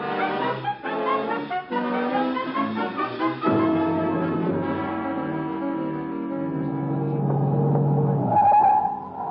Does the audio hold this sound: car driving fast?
yes